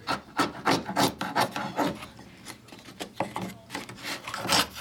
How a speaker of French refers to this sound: Un ciseau à bois. Bravo, c'est le ciseau à bois.